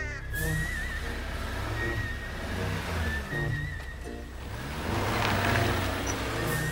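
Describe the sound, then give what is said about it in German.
Car horns honk over and over in a long traffic queue on a country road, overlapping tones of different pitches sounding above a steady low rumble of idling engines, with no clear voices. “Die Autoschlange ist lang, sehr lang. Auf halber Strecke hat das Gehupe den Neuhofer Kurt aus dem Haus gelockt.”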